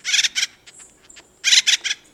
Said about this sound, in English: He doesn't sound exactly like Woody Woodpecker, but this acorn woodpecker was probably the model for the cartoon character. Listen to Woody's muse calling from a dead oak tree.